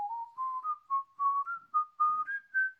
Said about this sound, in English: Don't whistle